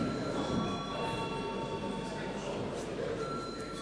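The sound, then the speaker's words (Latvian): The voting bell of the Latvian parliament, the Saeima, rings without a break for several seconds before a vote on sending a bill to committee, a loud, steady, metallic buzzing clang with a constant pitch and no pauses. “Lūdzu zvanu.”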